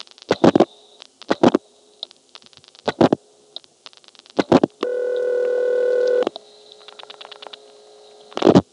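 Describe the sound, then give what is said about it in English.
Bursts of rapid clicking as a Barry telephone number is dialed on an old line from Marshfield, routed through Plainfield as a long-distance call over the local network, then a steady, buzzy ringing tone for over a second, followed by more dial clicks. No one speaks. “Let's actually get a Barry number ringing to, make a long-distance call through the local network.”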